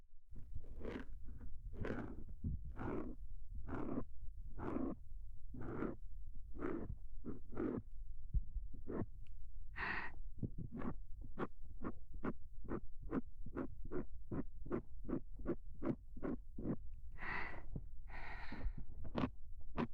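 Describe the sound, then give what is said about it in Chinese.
Crunchy scraping strokes of ear cleaning, digging inside an ear, repeat in a steady rhythm right against the microphone, speeding up into quicker, tighter bursts in the second half, with no talking. “那我继续掏哦。”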